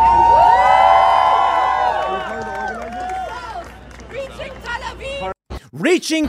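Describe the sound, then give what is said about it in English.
A large crowd cheers loudly, celebrating rockets being fired, with many overlapping whoops and high shouts. The roar gradually fades into scattered voices, then a few sharp shouts follow after a brief pause. “They are celebrating and cheering for rockets being fired on civilians.”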